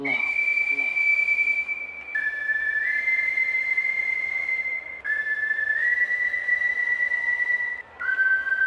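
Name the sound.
person whistling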